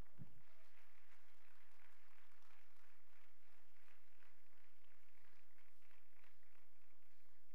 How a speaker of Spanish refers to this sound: Alguien dele un aplauso al Señor.